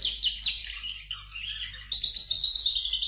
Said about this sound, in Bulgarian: Хубав есенен ден, пеят птички. Пеят птички, казах.